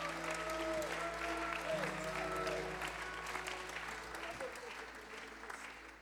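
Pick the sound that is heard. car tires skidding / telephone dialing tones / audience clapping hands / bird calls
audience clapping hands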